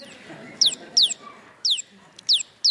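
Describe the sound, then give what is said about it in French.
A bird being stroked makes five short, sharp clucking calls, each a quick downward chirp, spaced irregularly over a faint background hum; it stops calling when the stroking stops. “Et merci à l'oiseau.”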